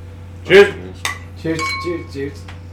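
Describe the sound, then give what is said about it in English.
A quick clink of drinks touched together in a toast, followed by a faint ringing tone, with voices murmuring. “Oh, cheers. Hey, I can cheers you now.”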